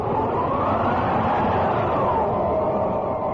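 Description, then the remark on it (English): Loud, steady roar of wind from a dust storm in a valley in March 1900, with a rising and falling howl sweeping through it, continuous, with no voices. “In March of that same year, a dust storm.”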